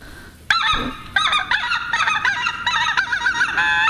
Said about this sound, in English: And speaking of speckled belly geese, listen to this.